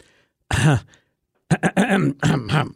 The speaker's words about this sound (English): Here, let me clear my throat on that one.